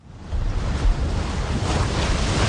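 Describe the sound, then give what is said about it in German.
Indian Ocean waves crash and churn continuously against a steep rock cliff on a stretch of Kenya's coast without sandy beach, a loud, dense roar of surf with heavy low rumble and spraying hiss, wind buffeting the microphone, no voices. “Die Wellen des Indischen Ozeans schlagen gegen eine steile Felswand.”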